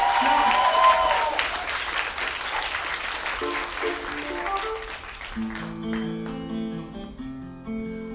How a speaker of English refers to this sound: Give a round of applause for him, and give a round of applause